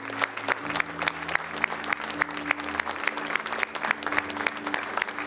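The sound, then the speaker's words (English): An audience claps steadily, many hands producing a dense, sustained patter of applause that fills the room, with a low hum of crowd noise beneath it. “Come on, would you keep clapping?”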